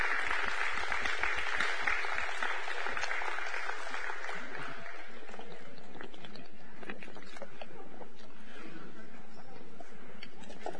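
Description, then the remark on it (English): A church audience claps steadily as the children are dismissed, a dense, continuous wash of applause that stays fairly even throughout, with scattered sharper claps standing out and a faint murmur of voices underneath. “You're dismissed with a big round of applause.”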